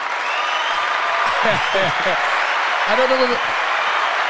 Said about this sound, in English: I don't know whether you can hear that on the other line. Yeah. But that was a round of applause.